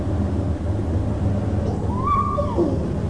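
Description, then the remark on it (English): Heavy rain pours in a steady, dense hiss over a deep low rumble, with a brief wavering whistle-like tone rising and falling about two-thirds of the way through. “No, baby cannot go out because it's raining heavily.”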